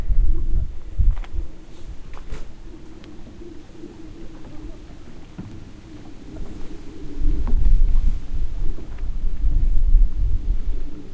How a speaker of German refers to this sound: Tja, hier höre ich jetzt zumindest kein Auto. Ist schon mal gut. Aber ein Flugzeug höre ich dafür von irgendwoher.